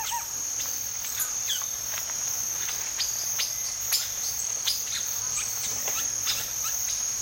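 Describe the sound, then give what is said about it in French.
A dense forest chorus of birds and insects in Rondônia, recorded in the early 1990s: a steady, high insect drone hums continuously while scattered bird chirps and calls pop in and out, with no voices. “On entend vraiment une tourne au-dessus du chorus des oiseaux et des insectes.”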